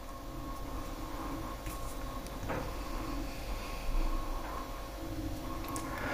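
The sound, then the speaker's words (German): A steady refrigerator hum drones on with no one speaking, low and constant, with a few faint clicks and rattles rising briefly out of the background. “Ja, im Hintergrund der Kühlschrank.”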